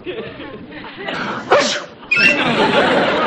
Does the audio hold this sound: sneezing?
yes